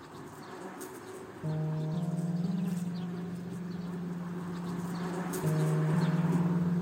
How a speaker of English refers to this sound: So, well, they say bees are messengers from the other world. So I'll just leave you a couple of seconds with the bees and I'll be off.